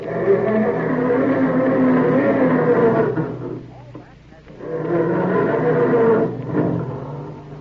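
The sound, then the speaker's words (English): A voice imitates a family car engine straining to start in the morning: two long, loud, groaning bursts with a brief pause between, rough and sputtering. “Or does your car sound more like this when Dad goes to start it up in the morning?”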